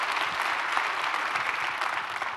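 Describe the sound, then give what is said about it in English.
A church audience at Fairhaven church claps steadily for its single members, a dense, even wash of many hands with no pauses and no talking, holding at a fairly loud level throughout. “Big round of applause.”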